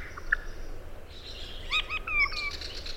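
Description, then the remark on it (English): A regent honeyeater sings a short, simple song of a few clear, slurred whistles and chirps over a soft background hiss with no voices. “And this is a problem that's common to all of the regent honeyeaters that are left?”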